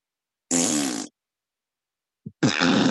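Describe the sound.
Two loud, buzzy raspberry blows made with the lips imitate farts, a half-second burst, a pause, then a tiny blip leading into a longer sputtering second one, with no talking.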